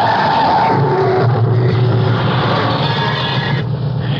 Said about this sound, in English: You all right, Inspector? Yeah. Thanks to that safety belt. That was a nasty bump. Better back my car up and get onto the shoulder. I'm sorry. It was a blind corner. How did I know he was going to stop short at his house?